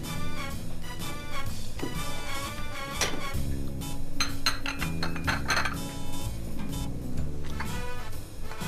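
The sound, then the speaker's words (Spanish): A plate and cutlery clink together in several sharp, irregular taps, fairly loud, over a steady tonal background; no one speaks. “Coge ese plato con cubiertos.”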